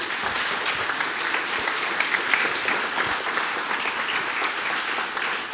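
An audience applauds steadily for several seconds as a speaker takes the stage for a talk on automotive Ethernet standards: a dense, even wash of many hands clapping with a bright crackling texture and no talking over it.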